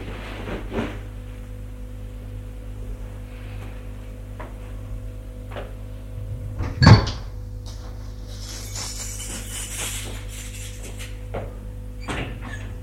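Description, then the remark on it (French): The locked door of a tiny room being unlocked and opened by a man returning with a glass of water: faint metallic clicks, then one sharp, loud clunk of the latch midway, followed by softer rattles, all over a steady low hum with no voices. “La porte est ouverte, c'est l'homme qui revient, avec un verre d'eau.”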